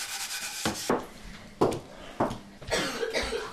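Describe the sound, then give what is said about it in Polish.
A child coughs several times in short, irregular bursts, moderately loud, with a faint rustling, rubbing noise between the coughs and no talking. “kaszle.”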